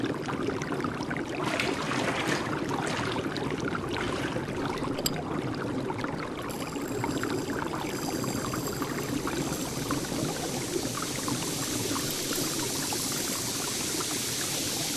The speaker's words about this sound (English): Once you have chosen one, pour the crystals into the pool.